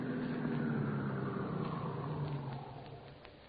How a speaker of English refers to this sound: Shortly after midnight, the stolen car in which they had driven from Chicago pulled up in front of the spacious Victorian residence where their intended victim lived all alone.